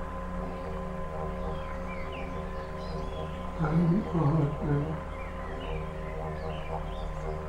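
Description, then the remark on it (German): Soft babbling, gurgling water with scattered birds chirping faintly, over a steady low hum; a calm voice speaks briefly in the middle. “Eine liebliche Melodie ist das Plätschern und Gurgeln des Wassers. Dazu das fröhliche Zwitschern der Vögel.”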